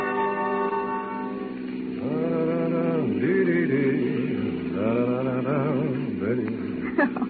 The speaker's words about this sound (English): Oh, darling, you've been humming that all day.